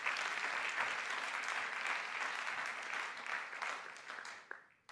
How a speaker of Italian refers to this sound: Fai un applauso più forte per il Signore.